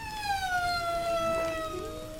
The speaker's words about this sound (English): In this recording, you can hear a male and a female humpback communicating after a visit together to the sand spa.